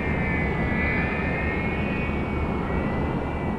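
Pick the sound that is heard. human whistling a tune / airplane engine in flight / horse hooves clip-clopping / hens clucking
airplane engine in flight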